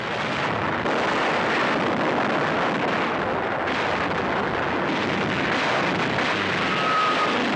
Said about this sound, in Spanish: Las sirenas hacen un gran ruido. Las bombas explotan. Pearl Harbor está destruido.